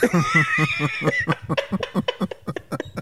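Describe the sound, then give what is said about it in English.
A man coughs in a long, rapid series of harsh bursts, fairly loud, the fit running on without pause and sounding almost like strained laughter. “My dad's coughed so much better that right now he's coughing and it's like bringing me back.”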